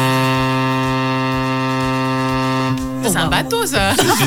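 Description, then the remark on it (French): A loud, steady, buzzing boat horn blast with a rich stack of harmonics holds for about three seconds, with a low rhythmic throb beneath, before voices start talking over its tail. “C'est un bateau, ça. C'est un bateau.”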